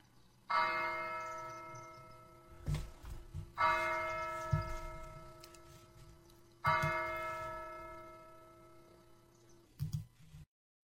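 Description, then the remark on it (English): Church bells ring out in three strong, resonant strikes spaced a few seconds apart, each with a long shimmering decay, along with faint clanks and knocks of the bell mechanism in between. “And for the next few moments, we're going to think about the bells, the church bells.”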